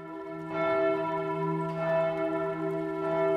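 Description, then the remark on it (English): Church bells ring from the Minster's bell tower in the old town of Bern, Switzerland, steadily with rich, sustained overtones, strikes blending into a continuous resonant peal that sounds full, with no voices present. “You can see how the Minster's bell tower has been extended upwards in stages.”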